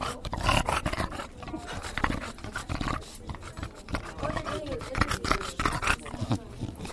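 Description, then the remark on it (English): A dog named Tinkerbell pants quickly and steadily after winning the big prize at a dog show, breathy bursts repeating for several seconds, with a murmur of voices in the background. “Tinkerbell appeared pleased, but a little breathless after winning the big prize.”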